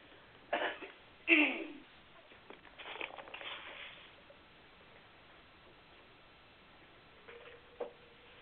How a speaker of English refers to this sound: Excuse me, let me clear my throat and get some water.